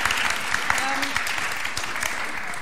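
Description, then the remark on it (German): An audience applauding to welcome invited guests, a steady wash of many hands clapping at an even, fairly loud level throughout, with no voices standing out above it. “Einen Applaus bitte.”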